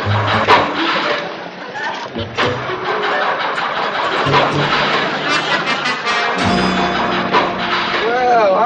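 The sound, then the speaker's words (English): A car engine with a flooded motor cranks over and over without catching, a loud, sputtering, grinding churn that keeps going for several seconds. “This your daddy's car? No, it's mine. I think I flooded the motor.”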